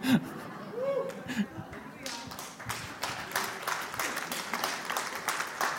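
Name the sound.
audience clapping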